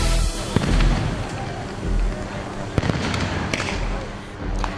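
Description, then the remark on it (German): Tear gas launchers, fired at night by armed National Guard soldiers at demonstrators in Ferguson, Missouri, fire a few sharp, irregular bangs, each a quick crack, over a constant rumble of crowd noise and indistinct voices. “Bewaffnete Soldaten der Nationalgarde feuerten Tränengas auf Demonstranten, die Flaschen und Steine geworfen hatten.”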